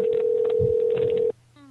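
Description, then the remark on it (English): A steady, clear telephone tone holds for over a second, then cuts off abruptly and a quieter, thinner tone takes over as a call to Walmart connects, with faint background murmur underneath. “Calling Walmart.”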